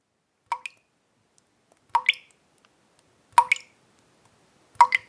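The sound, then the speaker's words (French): Water drips steadily through the leaking roof of an old house while it rains outside, four distinct plops spaced about a second and a half apart, each landing as a quick double splash, clear against silence. “Le toit laisse passer l'eau.”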